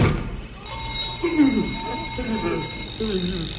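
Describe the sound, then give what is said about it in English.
A machine's alarm bell, part of an alarm system next to its antenna in a Jim Henson film, starts abruptly and keeps ringing as a steady, shrill, high-pitched tone with no break, while people talk quietly underneath. “There is an alarm system located next to the antenna, which rings if any portion of this machine is damaged.”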